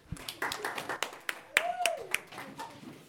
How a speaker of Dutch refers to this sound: Dankjewel, applaus.